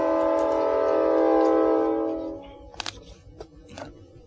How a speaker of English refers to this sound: Well, that's a good timing with the train right now.